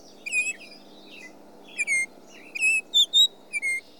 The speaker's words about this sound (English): Rusty Blackbird? No. The answer is Baltimore Oriole. We were looking for Baltimore Oriole.